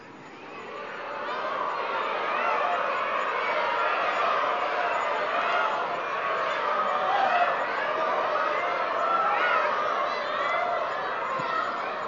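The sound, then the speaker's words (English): A crowd of people imitates peacock calls all at once, a dense, overlapping wash of high, wavering cries that swells in the first seconds and holds steady and loud throughout. “Do you know how to sing like peacocks? You may try.”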